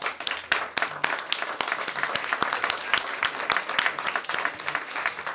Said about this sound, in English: Thank you, songwriters, for everything you do. How about round of applause?